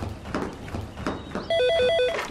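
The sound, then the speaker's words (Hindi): A telephone starts ringing partway through, a loud electronic ring warbling rapidly between two tones, following a stretch of muffled, rhythmic background noise. “खुदा करे ताहिर का फोन हो।”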